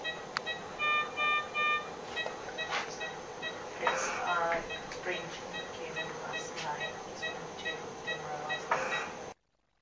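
A ventilator runs in the background of a video of a cat's breathing, with a steady hiss broken by short bursts of breathy noise and a series of high electronic beeps repeating early on, all at moderate loudness.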